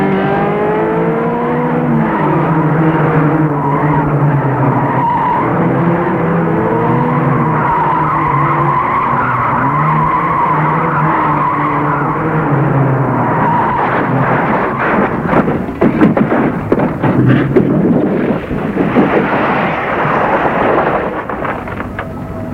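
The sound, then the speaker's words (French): Car tires squeal and skid in long, wavering shrieks for several seconds, then a loud, noisy crash of rattling impacts follows before fading: a car accident in France, the car a Mercedes. No voices are heard. “Malheureusement, arrivé en France, j'ai eu un accident de voiture.”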